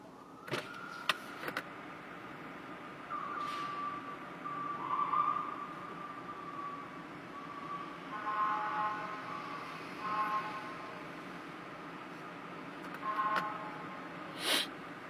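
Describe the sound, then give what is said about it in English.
A fire truck siren wails nearby, heard from a car in heavy traffic, its rising and falling tones sustained under steady road rumble, with a few short sharp bursts scattered through, louder toward the end. “That's a fire truck.”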